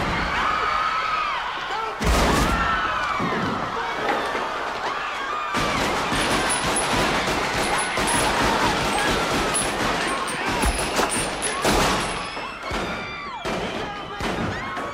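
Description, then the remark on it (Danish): Gunshots ring out at the assassination of Malcolm X, as a man rises from the front row with a sawed-off shotgun and fires: a sharp bang followed by a dense, rapid volley of loud cracks and thuds over several seconds, amid a chaotic wash of noise and shouting voices. “Men så rejser en anden mand sig med et oversaget gevær fra sin klapstol på forreste række, træder frem og skyder.”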